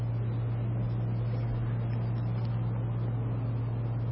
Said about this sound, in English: The sound is not too clear. Maybe the fan, yeah, the fan should be turned off. It's creating distortion, and it's not creating a lot of comfort in any case. So maybe someone can turn this fan off.